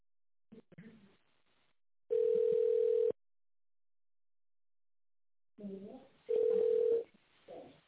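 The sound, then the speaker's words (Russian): Two long, steady telephone tones, each about a second, sounding while waiting on hold on a call to the company Tochnye Mashiny ("Precise Machines"), with brief stretches of a voice talking before and after them and silence between. “Пожалуйста, дождитесь ответа специалиста или наберите внутренний номер абонента в тоновом режиме.”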